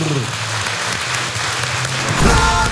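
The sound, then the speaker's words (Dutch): A crowd applauds loudly and steadily for the speakers at the opening of the Neerlab, a dense wash of many hands clapping at once that holds its level throughout and swells slightly toward the end. “mag ik een groot applaus”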